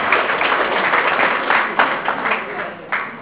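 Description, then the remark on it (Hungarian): A crowd applauds steadily for a blood donor honored at a ceremony for their 20th donation, dense overlapping claps at a moderate, even level with occasional louder bursts, no one speaking over it. “Egy nagy tapsot.”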